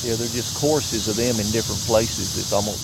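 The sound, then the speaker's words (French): A dense, steady chorus of cicadas drones high and continuous throughout, with a voice talking in the foreground over the shrill insect wash. “Il y a des chœurs des cigales Like qui répondent les uns aux autres.”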